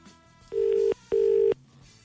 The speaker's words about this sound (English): Let me call my history guy and he'll tell me about the storm in history. It's ringing.